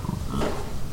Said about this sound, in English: They'll grunt for their calves, and they grunt back and forth. As the buffalo gather around the truck, these are the sounds you hear. The pickup dropping the cake cubes. Mamas talking to babies. We were just feet from this prairie symphony.